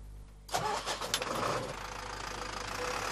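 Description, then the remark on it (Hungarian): A tractor engine cranks and catches after a brief low hum, a few uneven sputters giving way to a steady, loud, rumbling idle, as students learn to drive tractors at a vocational secondary school in Békés. No one speaks. “Traktort vezetni tanulnak a békési szakközépiskolában.”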